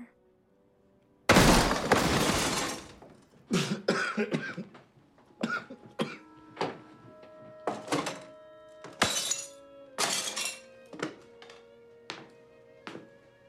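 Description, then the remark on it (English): In a film scene, the character Bigfoot kicks in a door with a loud splintering crash, followed by a string of heavy thumps, bangs and cracking impacts at an uneven pace, with no voices. “And then you've got the scene where Bigfoot kicks down his door, which is fucking hilarious, right?”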